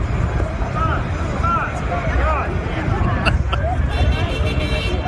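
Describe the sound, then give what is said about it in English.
Dense street noise in New York near the Midtown Tunnel during a traffic backup, with a steady rumble of traffic and a crowd murmuring, and brief horn toots from drivers cutting through near the middle, all fairly loud and continuous. “They honk, they laugh, they wave.”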